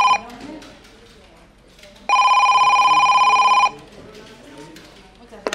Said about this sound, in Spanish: Eran las 12:30 de la noche cuando el detective privado, Lucas de la Torre, bebía su último sorbo de whisky en su despacho, cuando de repente sonó el teléfono sobresaltándolo sobremanera.